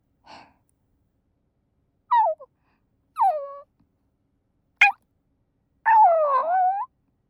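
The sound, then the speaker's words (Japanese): A person imitates a dog while being petted: a soft breath, then a few short falling whimpers, one sharp little yip, and a longer wavering whine, separated by pauses. “犬の真似しながら君になでなでされるの。”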